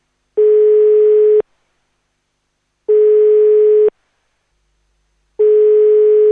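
A call to the duty phone line of the consumer protection counselling office in the Beograđanka building in Belgrade rings out unanswered: three long, steady electronic tones, each about a second, separated by short silent gaps, clear with no voices.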